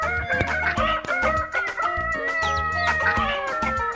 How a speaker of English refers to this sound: Let's listen to that rooster for a little bit more.